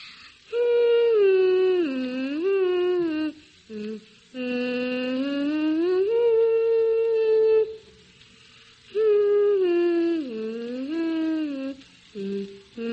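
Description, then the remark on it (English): A six-year-old boy hums the beginning of the classical tune The Swan alone in three long, sustained phrases, the clear voice gliding smoothly up and down in pitch with short pauses between phrases. “Can you sort of hum the beginning for us?”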